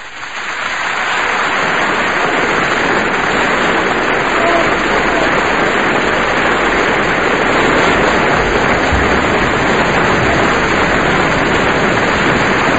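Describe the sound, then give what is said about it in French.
An audience at a live stage show applauds in a dense, steady wash of clapping that swells up within the first second and holds loud and even throughout, hissing almost like heavy rain. “Comme ça, de loin, vos applaudissements peuvent ressembler à la pluie.”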